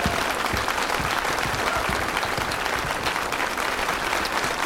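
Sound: audience round of applause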